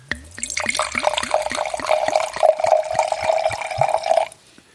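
Water pours steadily into a glass for about four seconds, the pitch rising as it fills, then stops abruptly. Fairly loud, with no voices.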